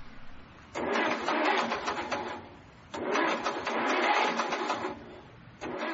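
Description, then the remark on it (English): A car with a broken engine cranks and sputters without catching, in three attempts of rapid, rhythmic churning separated by short pauses. Fairly loud, with no voices. “I think my engine is shot.”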